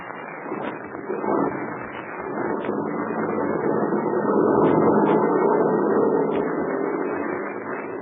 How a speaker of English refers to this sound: The heavy truck was started. It pulled away from the headquarters of the red-whiskered Captain Blaze and lumbered down a narrow mountain road toward a river that cut through a narrow gorge.